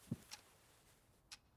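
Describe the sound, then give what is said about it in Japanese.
A clock ticks faintly, with two soft, crisp ticks about a second apart, preceded by a dull low knock. “時計が規則正しくなって”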